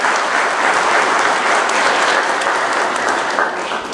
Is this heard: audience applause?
yes